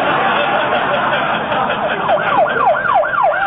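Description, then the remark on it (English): A police car siren wails in quick, regular up-and-down sweeps, growing clearer and louder toward the end over a steady wash of traffic-like background noise, with no one speaking. “Oh, no, it's the police.”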